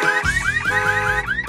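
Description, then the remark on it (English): A car alarm blares with rapid, repeating rising whoops, about four electronic sweeps in quick succession, loud with no voices. “We started inventing dumb things like car alarms, leaf blowers, and spray-on hair.”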